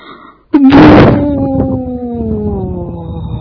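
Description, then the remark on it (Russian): A door is shut with one loud, heavy thud, then a low groaning creak drags on and slowly fades over the next few seconds. No one speaks. “Дверь как, открыли или закрыли? Закрыли.”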